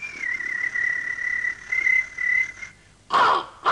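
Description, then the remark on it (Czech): An Australian magpie call: a steady, clear whistled note held for nearly three seconds, then a brief, louder burst of rich warbling at the end, with no voices. “Rubrika Tlapková platová trojka a pozor, to je Atlas flétňáku.”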